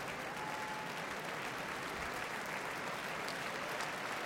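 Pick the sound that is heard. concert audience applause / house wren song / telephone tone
concert audience applause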